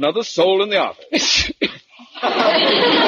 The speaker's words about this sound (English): Bless you. Shut up! I'm sorry, sir. My cat has a cold.